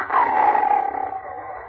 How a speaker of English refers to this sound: In addition to the usual sounds of the jungle, the air was rent by the roar of a lion.